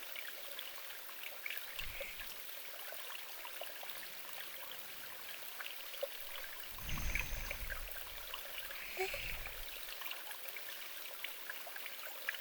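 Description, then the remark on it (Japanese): A steady river stream babbles and trickles continuously, with a bright, fizzy wash of flowing water and a few deeper gurgling swells around the middle. No one speaks. “日々を過ごしているそういう音を実際に感じるのは難しいかもしれませんが、今自然の音を感じて癒されてくださいませ。”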